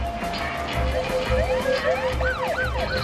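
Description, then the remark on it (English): A white police car's siren wails in rising and falling sweeps that grow stronger toward the end as it comes up behind a car on a town street, over a steady low rumble of street traffic, with no one speaking. “A white police car comes up behind him.”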